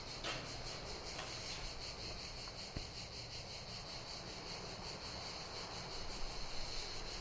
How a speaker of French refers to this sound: Et quand on sort du fort de la Repentance, on voit ce paysage avec quelques mouches qui tournent.